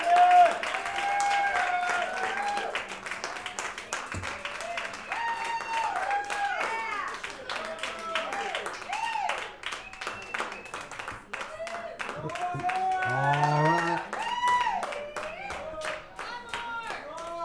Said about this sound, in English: Ladies and gentlemen, one more time, a big round of applause.